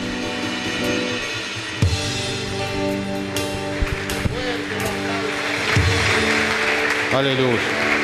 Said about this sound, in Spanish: Aleluya. Más fuertes aplausos si es para Jesús.